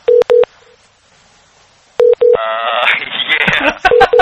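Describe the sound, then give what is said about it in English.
An outgoing phone call's ringing tone, loud, sounding in repeated double pulses with pauses between. Midway a buzzy, wavering noise with some clatter cuts in under the later rings. “Are we ringing?”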